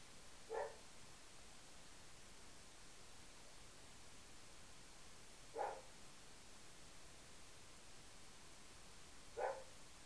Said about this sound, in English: What's Dakota barking at, huh?